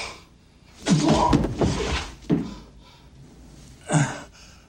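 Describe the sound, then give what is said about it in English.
On a stage, a man's body crashes down with a loud, scuffling thud, then his hips make two more separate bangs against a wall, with short quiet gaps between them. “He falls. His hips raise and bang into the wall.”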